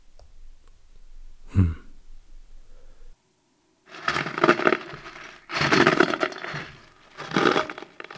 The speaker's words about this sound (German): Haben Sie das auch gerade gehört? Doch, da knirscht was. An der Tür. Ich sehe mal nach.